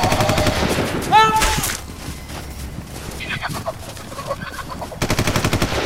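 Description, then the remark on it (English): Rapid bursts of automatic gunfire fired at a bird crackle loudly at the start and again near the end, with a sharp squawking bird cry early on and raised voices in the noisy stretch between. “On the bird! On the bird! Just shoot her! We try!”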